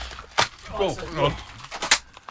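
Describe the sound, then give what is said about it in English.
A Christmas cracker being pulled gives a weak, papery pop, with another small snap just before it and a person's voice in between; both bursts are brief. “I think we should open a cracker”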